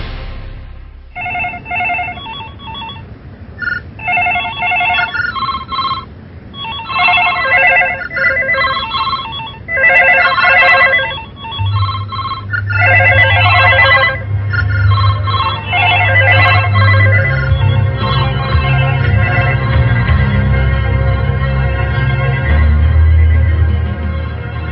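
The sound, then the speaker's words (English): A telephone rings in repeated bursts of bright, warbling electronic trills, joined midway by a low droning hum that swells toward the end as the ringing blurs into a busier wash of sound. “Phone, friend or foe.”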